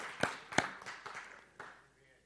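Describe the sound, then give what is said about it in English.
A few scattered hand claps from an audience: two sharp, prominent claps followed by a couple of softer ones, tapering off quickly rather than building into sustained applause. “We only had two ever, but that's worth applauding, that the government's only recognizing two.”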